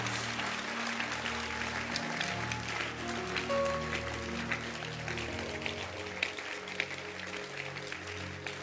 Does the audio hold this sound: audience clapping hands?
yes